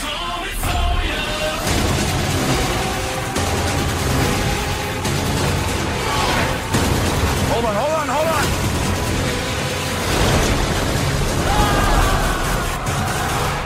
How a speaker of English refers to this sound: Are those fireworks? Yes, ma'am.